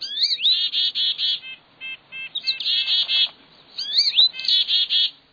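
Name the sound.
songbirds chirping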